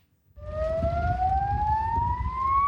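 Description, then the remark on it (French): A shrill alarm siren at an air base in Lithuania, in freezing cold, kicks in after a brief pause and wails steadily, its piercing tone gliding slowly upward in pitch over a low, rumbling background noise; it signals French mechanics, technicians and pilots to rush to the shelters. “Une alarme stridente dans le froid glacial de Lituanie.”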